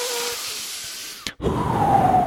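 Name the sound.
heavy breathing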